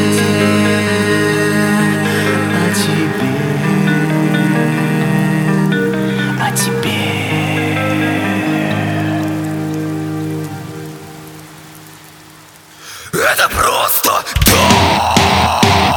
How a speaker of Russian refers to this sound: Он снова плачет за моим окном. Это просто дождь.